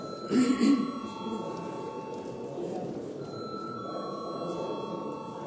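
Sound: parliament chamber bell ringing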